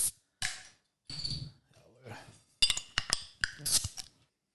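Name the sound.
glasses clinking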